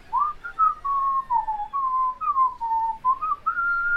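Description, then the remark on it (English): Someone whistles a bright, wavering tune, the notes sliding and dipping in a steady melodic run for a few seconds with no talking. “Can a lizard whistle? Because I think he would be whistling if he could.”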